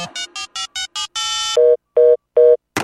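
A quick run of electronic phone tones: several short beeping pulses, a longer sustained tone, then three evenly spaced ringback tones as a call connects to the Wuxian Guanhuai (Boundless Care) hotline, clear with no voices.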